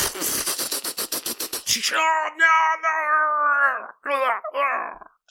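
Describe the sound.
A rapid rattling burst of noise gives way to shrill, drawn-out wailing screams, a voice imitating alien creatures shrieking as they are fired upon, ending in a couple of shorter cries.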